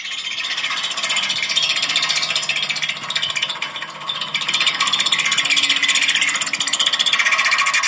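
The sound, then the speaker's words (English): A steamroller's steel front drum grinds and scrapes over rocks stuck to the roller, in a steady, harsh rasp, with a fast buzzing vibration resonating off the drum and a low droning hum underneath, holding loud for the whole stretch. “If anybody said steamroller, that would have been it.”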